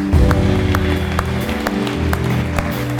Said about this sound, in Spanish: ¿Puedes darle un aplauso al Señor?